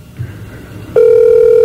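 A telephone ringing tone starts abruptly after a moment of faint low rumble, a loud steady electronic hum that holds without a break. No one speaks.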